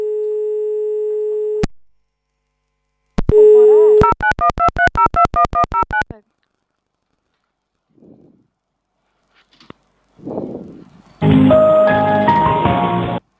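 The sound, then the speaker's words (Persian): After a phone call suddenly cuts off, a steady phone dial tone hums alone, then a rapid series of short repeated beeps follows like a busy signal, before some faint rustling and a burst of music. “البته ما چی شد؟ یه دفعه گوشی قطع شد.”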